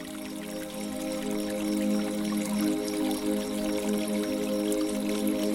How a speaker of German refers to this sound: In der Mitte des Gartens plätschert ein kleiner Brunnen. Sein Wasser funkelt wie flüssiges Mondlicht.